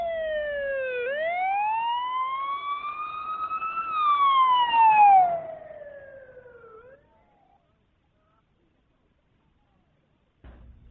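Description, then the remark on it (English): A loud ambulance siren wails, climbing in pitch, holding, then sliding down as it fades out, followed by a few seconds of silence. “Get an ambulance now!”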